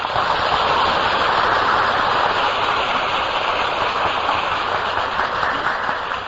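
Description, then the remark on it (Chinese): A large audience in a lecture hall applauds for Master Jingkong, a dense, unbroken wash of clapping that holds at an even, fairly loud level for several seconds with no voices over it. “这个讲堂啊，以前曾经请过净空法师来上过课，这净空法师我们要跟他鼓掌。”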